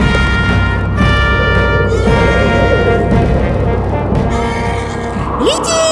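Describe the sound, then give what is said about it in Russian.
A white horse ridden by Joan of Arc into Orléans, France, neighs amid a loud, continuous wash of layered tones from a medieval march, with a steady low rumble underneath like galloping hooves and a rising whinny near the end. “А на белом коне скачет девушка с белым флагом.”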